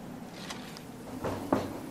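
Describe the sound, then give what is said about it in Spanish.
A son knocks a few muffled knocks on his mother's door, irregularly spaced, the last one slightly sharper, with no voices. “Llama. El sonido cesa un momento.”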